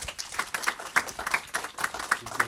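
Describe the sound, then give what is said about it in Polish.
An audience at a film screening and meeting applauds steadily, many hands clapping together in a dense, crackling patter that stays at an even, moderate level throughout, with no voices heard. “I jeszcze raz brawa”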